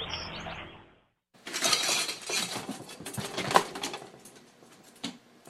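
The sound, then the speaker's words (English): Frantic metallic rattling and clattering as a squirrel scrambles inside a wire have-a-heart cage trap, trying to find its way out by trying one side of the cage, then the other, with irregular bursts of scraping and clanking and a brief pause near the start. “So what you're hearing there is the sound of a squirrel frantically trying to find his way out of a have-a-heart trap, trying one side of the cage, then the other.”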